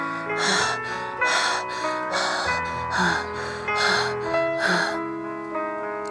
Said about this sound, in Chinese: 这声音听起来像在喘气。 别傻了，月亮脸， 乔说， 飞机才不会喘气呢。 这种飞机会，月亮脸说，你没听出来它气喘吁吁的吗？ 听上去飞机好像真的在喘气。